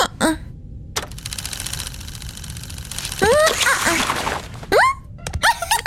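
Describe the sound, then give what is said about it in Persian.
A small automatic bow-tying gadget, aimed at a dog and set off by pressing its button, whirs and clatters with a rapid, rattling mechanical buzz for a couple of seconds, followed by several short, high squeaky yelps and chirps. “پاپیون بند خودکار پدرتو امتحان کن. فقط به سمت طول سگ نشونه بگیر و دکمه رو فشار بده.”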